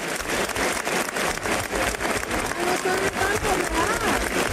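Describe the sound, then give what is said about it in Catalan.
A steady burst of audience applause, dense and continuous clapping from a sizable crowd, with a few voices and a faint whistle-like tone rising through it near the end. “Sí, aquí a veure, aplaudiments.”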